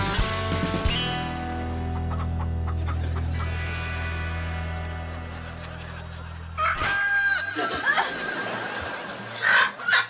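chicken crowing loudly

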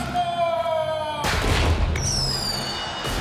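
firecrackers exploding

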